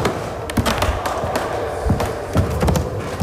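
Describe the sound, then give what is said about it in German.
Old wooden floorboards of the organ loft in the Grossmünster church creak and thud under shifting weight, a series of irregular knocks and groans of moderate loudness with a faint background hiss and no voices. “Der knarrende Boden, das ist der vom Grossmünster. Und zwar oben von der Orgel empore.”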